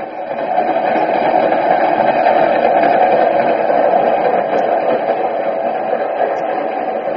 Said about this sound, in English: I knew it'd be curtains for me as soon as I got off the train. I kept hoping for a miracle. Maybe the train would crack up or stop one station too soon or...